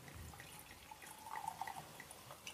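Funky Punky Pinot Noir Rosé 2022 wine trickles and gurgles softly into a glass, a faint, steady pour broken by a few brief, bright watery plinks, with no voices over it.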